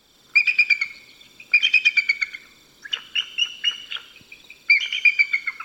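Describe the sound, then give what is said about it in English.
Bursts of shrill, high-pitched, baby-like eagle squawks and chirps come in rapid, repeated series, several clustered calls separated by brief pauses, clear with no talking. “And they also make very high-pitched, kind of shrill squawks and chirps, and one could even call them baby-like noises.”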